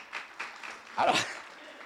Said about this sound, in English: I don't know if that's the right place to clap, but I appreciate it.